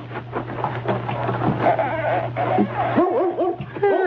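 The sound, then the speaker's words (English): A dog in a woodshed whimpers and yips in a series of short, rising-and-falling whines that grow clearer toward the end, over a low, steady background hum. “It's a dog back here in the woodshed.”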